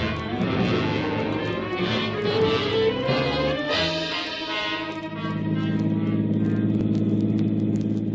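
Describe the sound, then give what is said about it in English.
A headquarters car's engine hums steadily as it drives six blocks over about three to four minutes, a low continuous rumble with some rattling and shifting tone midway, then settling into an even drone. No one speaks. “We rode the 6 blocks in a headquarters car, I guess it was.”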